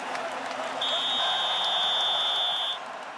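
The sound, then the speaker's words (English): A single sustained high-pitched whistle blast marking a break between segments, lasting about two seconds, steady in pitch, over a soft noisy background hiss. “Yep, that's what we'll do on the other side of the whistle.”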